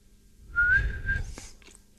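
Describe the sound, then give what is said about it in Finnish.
A caller to the radio station Radio Veiki whistles an imitation of a wood pigeon: one steady, slightly rising note held for under a second over a low rumbling background, followed by a short click. “Seuraava lintu sepelkyyhkyinen.”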